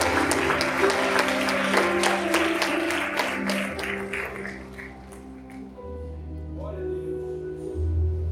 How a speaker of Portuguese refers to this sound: Quem pode ficar de pé aplaudindo esse Jesus lindo e extraordinário?